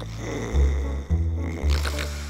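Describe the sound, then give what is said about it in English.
A father snores loudly with a low rumbling drone that goes on steadily, swelling in several rough pulses about half a second apart, with no talking over it. “Dad's snore rumbled along the hallway.”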